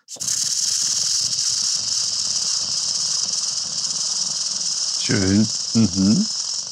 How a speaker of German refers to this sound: Feldschwirl klingt wie eine große Heuschrecke, so eine Laubheuschrecke.